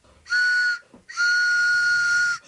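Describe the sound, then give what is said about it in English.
Two loud, sustained train whistle blasts, a short one followed by a longer one, each a steady high tone with bright overtones and a brief gap between them, announcing the 'pitching train' fundraising segment on WBAI New York radio. “The pitching train is pulling into the radio station.”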